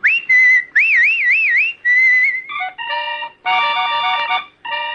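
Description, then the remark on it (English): A person whistles a short, lively tune, with wavering trills and sliding notes, before fuller, buzzy sustained tones take over for the last few seconds. “I'll be whistling, so you folks keep listening, will you?”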